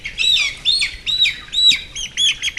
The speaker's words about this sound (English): enters a shed full of young hens on his egg farm at King Lake, just north of Melbourne.